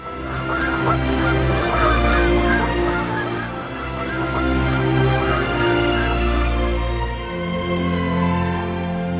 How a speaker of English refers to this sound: These birds are ptarmigans, also known as prairie chickens. They live at the poles all year round. Their feathers change color according to the seasons. In summer they are brown, and in winter, white.